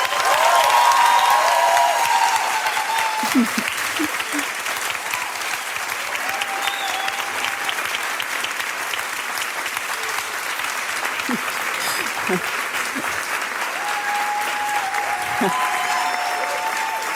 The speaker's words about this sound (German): Und jetzt möchte ich nochmal einen richtig fetten Applaus für Mohammed Amjahid hören.